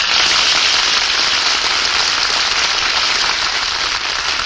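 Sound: studio audience applause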